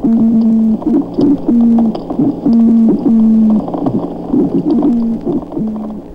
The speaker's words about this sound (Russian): Многие рыбы имеют свои характерные позывные. Американская жаба-рыба издает что-то похожее на кваканье и стон одновременно.